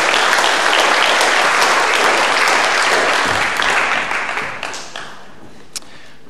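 A room full of people applauds steadily for several seconds, the dense clapping thinning out toward the end until only a few scattered claps remain.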